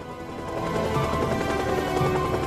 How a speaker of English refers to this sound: A blue helicopter descends from a cloudy sky down towards a rooftop helipad. Curtis stands waiting for it to touch down.